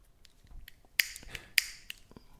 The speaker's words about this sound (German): Percussion. Kastagnetten waren das.